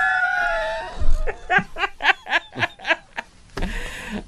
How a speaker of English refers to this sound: That Persian lion was an allusion to the movie we're going to review. You know, there was a lion roar. We heard that.